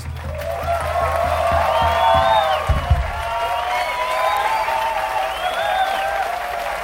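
A large audience applauds steadily throughout, a dense wash of clapping with cheering voices and whistles rising over it, fairly loud and sustained without a break.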